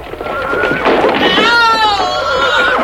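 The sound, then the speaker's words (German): A horse lets out a loud, shrill whinny as its rider, the governor, is struck by loosened roof tiles and falls from it; the wavering neigh rises and trembles for about two seconds over a busy background of commotion. “Sie haben den Statthalter getroffen. Er ist vom Pferd gestürzt.”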